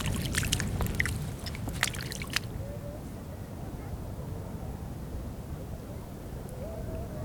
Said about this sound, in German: Eben war mal ganz kurz windstill, da konnte man so ein bisschen den Strand da hinten hören. So ganz kurz, dass man gar nicht windstill kann.